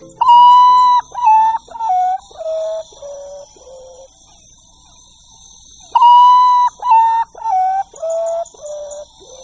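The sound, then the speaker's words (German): A common potoo sings two mournful phrases, each a series of about six whistled notes stepping down in pitch and growing fainter, separated by a few seconds of quiet. “So singt der Urutau-Tagschläfer, der in den tropischen Regenwäldern Mittel- und Südamerikas weit verbreitet ist.”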